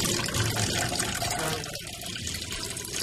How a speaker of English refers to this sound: Right, well, I'm going to wash my hands and get a mask.